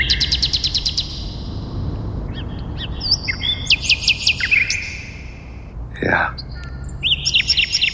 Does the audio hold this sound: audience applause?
no